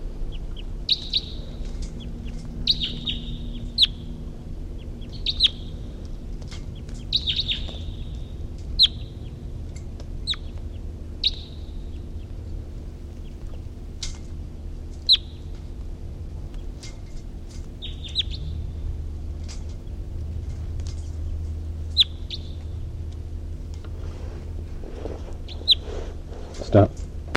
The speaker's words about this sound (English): Recording, it's 9:55 and a wild bird was calling from the distance, and the captives are calling, and then there was even a song phrase from 3:48.